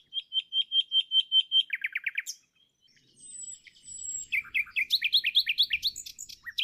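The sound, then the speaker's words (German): A nightingale sings, starting with a fast run of repeated sharp notes, pausing, then high drawn-out whistles and a rapid, varied burst of trills. No voices. “Das erste war eine Amsel, das zweite war eine Nachtigall.”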